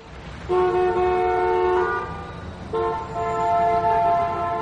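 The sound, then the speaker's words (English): Two long, loud car horn blasts in bad traffic in Calais, France, the first lasting about two seconds and the second slightly longer, sounding over a steady rumble of traffic with no one talking. “The traffic in Calais was quite bad.”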